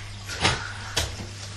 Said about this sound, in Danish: Der er nogen, der banker, jeg siger.